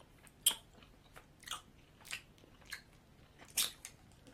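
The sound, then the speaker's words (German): Someone bites into a Dumble chocolate candy bought at duty free and chews it, with about five crisp, crunchy bites spaced unevenly over a few seconds and no talking. “Kennst du einen Schokoladenbonbon? Ich beiß mal rein.”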